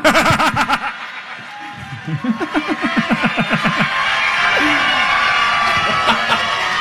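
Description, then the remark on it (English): A live crowd at a state fair laughs in loud, rhythmic bursts that swell into sustained cheering and applause-like noise, filling the space with a broad wash of audience sound. “introduce your wife to the crowd here at the State Fair.”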